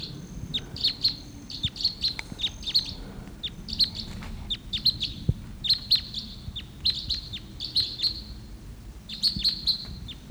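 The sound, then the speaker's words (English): Wild type 2 red crossbill flight calls from a bird flying in, early morning of August 16th: sharp, high kip notes in quick pairs and triplets, repeating steadily throughout over a low rumbling background, with no one speaking. “early morning of August 16th, and there's a wild type 2 crossbill coming in.”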